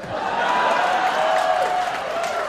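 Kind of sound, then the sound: crowd, audience applause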